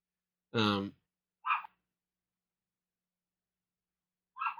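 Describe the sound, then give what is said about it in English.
A small dog outside in someone else's backyard yaps three times: one drawn-out, high-pitched bark followed by two shorter, sharper yips with a long pause before the last, with no talking. “Oh, this fucking dog. Whose dog is that?”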